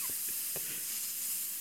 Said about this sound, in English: I found a new banger actually on Apple Music. It was called …. It goes off for 8 to 10 hours.